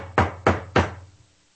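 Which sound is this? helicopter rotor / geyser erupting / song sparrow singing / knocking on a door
knocking on a door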